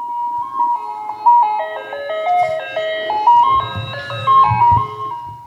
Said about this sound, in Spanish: Entonces escuché algo, el carrito de los helados.